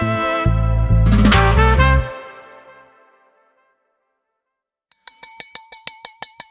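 Glasses clink in a toast, a quick, even series of about ten bright, ringing taps near the end, after a loud, resonant ringing sound fades into brief silence. No one speaks.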